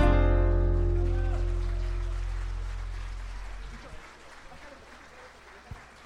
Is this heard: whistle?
no